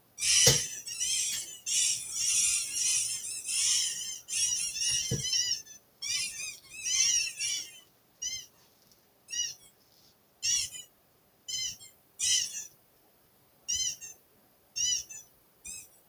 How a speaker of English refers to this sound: Duck disappears. All the other ducks appear, squeaking, and then... Perfect.